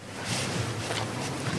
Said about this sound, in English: The sound of a camembert cow licking a microphone. These cows, when they're not tasting recording equipment, eat a lot of green Normandy grass and produce a lot of creamy milk that goes to make cheese that's admired the world over.